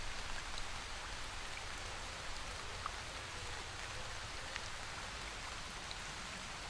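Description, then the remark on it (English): A waterfall cascades down a marble rock slope into a basin of clear fresh water, sending up a fine mist. It makes a continuous hissing rush of splashing water that holds an even loudness throughout, with no voices and no breaks. “With a beautiful cascading waterfall running down a gorgeous marble rock slope.”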